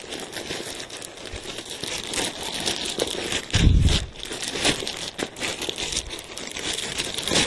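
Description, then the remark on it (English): Continuous crinkling of plastic wrapping as a vinyl computer case is unwrapped and taken out, with dense crackly rustles and one louder crumple partway through. No one speaks. “It is wrapped in plastic, of course, just because they like to keep the packaging people busy in the packaging departments.”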